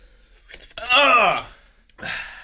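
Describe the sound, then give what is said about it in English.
Heavy breathing: a few breathy exhales around a loud, drawn-out voiced sigh that falls in pitch, then another rough, airy breath at the end. No talking. “Here's the heavy breathing part of the episode that I was really talking about.”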